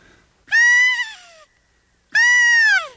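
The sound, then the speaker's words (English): An elk game call imitating a cow elk's mew, blown twice: loud, nasal calls that slide downward in pitch, each about a second long, with a short pause between and no talking. “That would be a cow.”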